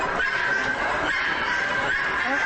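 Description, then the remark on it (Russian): A rooster at a decorative chicken exhibition in Warsaw, Poland, perched atop a vertical 4-metre log, crows in a long, strained, loud call that stretches on without a break, over a dense, noisy din of other poultry. “Вот как, например, приветствует посетителей один из петухов, который сидит на верхушке поставленного вертикально 4-метрового бревна, специально для того, чтобы можно было по достоинству оценить его чуть ли не 1,5-метровый хвост.”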